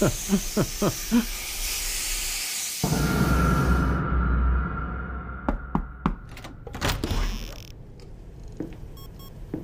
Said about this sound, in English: Hot shower, here I come.